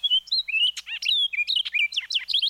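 An orchard oriole sings a rapid, varied song of whistles, chattery notes and slurred phrases, pouring out continuously and clearly with no other sounds.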